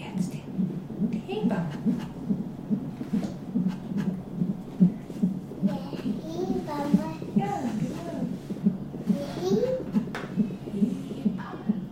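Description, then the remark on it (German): A fast, steady whooshing heartbeat pulses throughout, the rapid galloping rhythm of fetal heart tones on a CTG monitor during a prenatal check about 14 days before birth, with faint voices murmuring in the background. “So, müssen wir noch mal die Herztöne hören. Wie macht ihr das eigentlich während der Geburt?”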